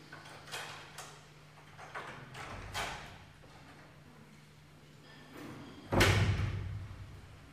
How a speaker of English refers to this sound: I think we can close the door and meet the beginning of that.